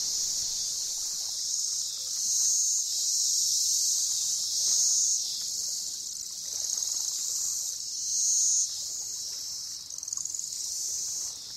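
A dense chorus of cicadas fills the air with a continuous high, shrill buzz that swells and eases in slow waves, steady, with no voices.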